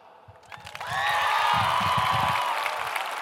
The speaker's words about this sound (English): And then there's the applause.